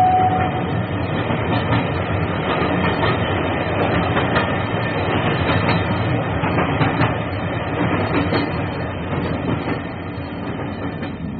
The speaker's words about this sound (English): The train was in this tunnel when Gresham was shot.